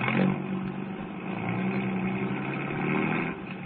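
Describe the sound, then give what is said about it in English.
A car engine, with two ignition wires taken off, rumbles into life and pulls away in fog, a steady low mechanical drone that swells briefly at the start and holds its loudness throughout, with no voices. “We'll see how far he can get in that car of yours.”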